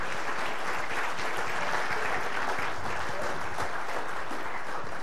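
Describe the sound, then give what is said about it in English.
A room full of people claps steadily, a dense wash of applause that holds at an even level throughout without pauses or cheering. “You start applauding”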